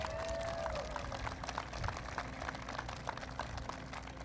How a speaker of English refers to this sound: To somebody who I think is one of the best governors in the country, Jennifer Granholm, please give her another round of applause.